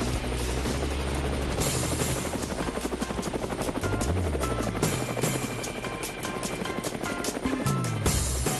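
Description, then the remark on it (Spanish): A helicopter thuds continuously with a steady, rapid rotor chop, loud, filling the whole recording with its rumbling, beating drone and no voices. “Bueno, amigos de Cuba, ahí está el helicóptero, ahí están las zapas, ahí está el sonido.”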